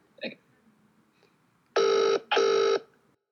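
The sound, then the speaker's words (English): A double ringback tone on an outgoing phone call, two steady electronic buzzes in quick succession, heard over a phone line after a brief faint click, clear and fairly loud with no talking. “Can you hear the ringing?”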